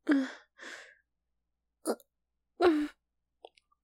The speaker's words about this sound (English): Sorry, excuse me. It was a burp.